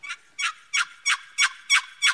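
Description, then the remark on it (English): A wooden turkey box call is worked to imitate a hen, scraping out seven raspy, evenly spaced yelps in a steady rhythm, clear with no talking. “Go ahead and work that box call. This is a hen, the hen sound, right?”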